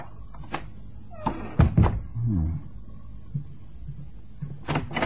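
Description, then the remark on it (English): The door of a flat in Hampstead is pushed open with a couple of sharp knocks and a low, drawn-out creak of the hinges, followed by soft scuffs and another pair of clunks. “Yeah, the door's open.”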